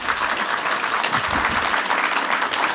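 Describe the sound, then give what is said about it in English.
An audience applauds steadily, a dense wash of many hands clapping at an even, fairly loud level throughout, with a faint murmur of voices underneath. “I justice got more applause than spreadsheets, which I'm happy about.”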